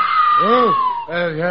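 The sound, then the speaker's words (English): An eerie, unearthly wail at night: a long, loud high tone sliding slowly downward while wavering, voice-like cries swell and fade beneath it. “Suddenly, the stillness of the night is shattered by an unearthly wail.”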